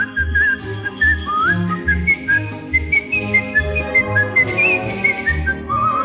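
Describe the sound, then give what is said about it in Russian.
A clear, high whistled melody glides and trills over a bouncy orchestral accompaniment with a steady bass rhythm, the tune carrying a light, song-like phrase throughout. “Я эту песенку могу не только вам напеть, но если нужно просвистеть негромко.”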